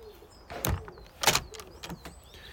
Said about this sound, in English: You didn't hear the door handle, did you? Let me close the door.